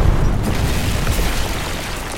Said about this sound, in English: The authorities will be here to investigate the blast. We all have to leave.